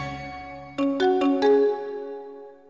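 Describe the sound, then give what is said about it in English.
A telephone rings with a short electronic melody of four quick, bright tones that then fade away, heard clearly on its own with no voices. “Fine, pick up the phone and have it your way.”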